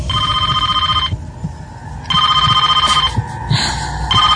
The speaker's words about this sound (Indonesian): terdengar bunyi telepon berdering yang ada di meja resepsionis ini.